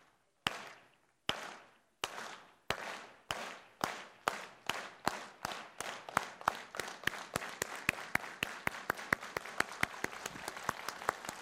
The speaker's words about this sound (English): Come on, clap with me. Those who have rhythm. You don't have rhythm, don't clap with me. But just clap with me. Clap with me.